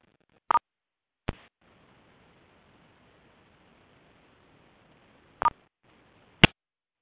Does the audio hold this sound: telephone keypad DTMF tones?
yes